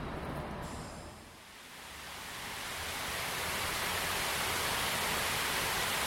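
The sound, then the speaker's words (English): A large surge of compressed air, released in the middle of a bayou when a control is pressed as part of an art installation meant to keep the river water from becoming stagnant and smelly, bursts up through the water, swelling from a brief lull into a loud, sustained churning roar of bubbling and splashing, with no voices. “It releases a huge amount of air right in the middle of the bayou when I press it, and it comes up”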